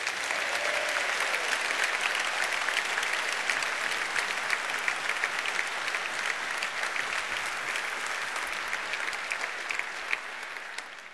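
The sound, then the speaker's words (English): Sustained audience applause for a guest at an evening stage show, a dense steady patter of many hands clapping at even loudness for about eleven seconds, tapering slightly at the end, with no voices over it. “But for now, Simon, a great inspiration to so many people, very clear from the applause.”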